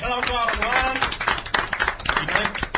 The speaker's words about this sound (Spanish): Una maravillosa Atari 2600 de Big Ben que incluye 10 juegos, entre ellos clasicazos como Gravitar, Real Sports Volleyball, Centipede, Asteroid o el mítico Pong. Dios santo, un gran aplauso.